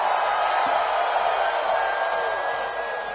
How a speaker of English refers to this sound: Put your hands up and on the count of three, scream. One, two, three, scream!